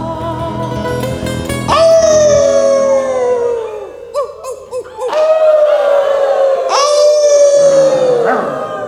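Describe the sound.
A crowd of people imitates dogs, letting out two long, loud, falling howls, with a scatter of short yelping barks in between. The voices blend together as a group rather than one person.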